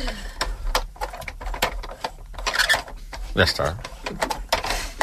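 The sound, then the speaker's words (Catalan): A toy lottery drum turning with no balls inside makes a dry, rattling, clicking whir in irregular bursts, fairly loud throughout, while someone speaks briefly over it. “Això és el so d'un bombo? Sense bola. De joguina, de joguina.”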